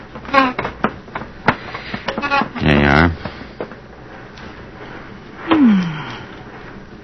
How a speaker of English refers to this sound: Let's go sit down. I'll set up these deck chairs.